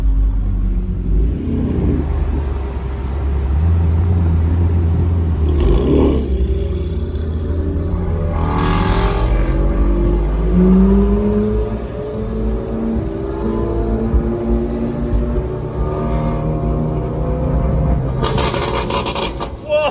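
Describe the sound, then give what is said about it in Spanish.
An M4 sports car engine rumbles deeply, then revs with climbing, falling pitch. Sharp backfire pops cut through a few times, ending in a rapid burst of crackling bangs. “Como ver tus coches en movimiento y cómo suena. Vamos a ver cómo son los petardeos del M4.”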